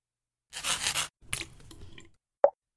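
A metal nib pen scratches hard across paper in a raspy burst, then a rougher dragging scrape, ending in one sharp, wet little splat of ink spraying onto the page, at Wincliffe Sanitarium. Fairly quiet.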